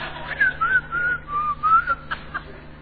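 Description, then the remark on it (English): A woman whistles to herself, a short, wandering tune, a clear thin melody gliding up and down in pitch for a couple of seconds, with a faint steady hum underneath. “in the hutch, shut it quickly, whistling to herself, backed off, and was over the wall without even missing a beat.”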